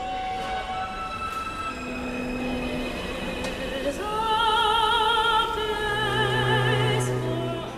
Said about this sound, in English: And then as the train settles into a groove, the transistors slow, and then this is the sound that comes out, which gives you that melody.